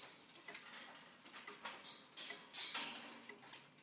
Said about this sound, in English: And just wind up a couple of little clocks here.